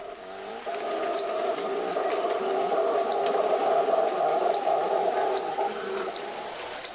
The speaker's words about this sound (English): Well, in the background, you're hearing a howler monkey. And then you're hearing little tree frogs, little peepers, and some insects. When did you make this? This was made in the early 90s,